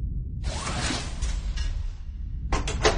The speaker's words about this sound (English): opened the door a fraction of an inch.